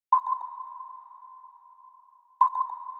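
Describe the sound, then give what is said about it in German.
Two sonar pings sound alone, each a sharp tonal onset that rings out and slowly fades in a long reverberant tail, the second arriving a couple of seconds after the first. “Bekannte Anwendungsbeispiele sind das Echolot und das Sonargerät.”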